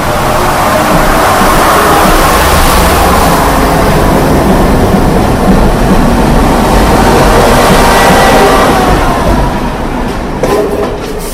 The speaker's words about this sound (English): Three-car DMU.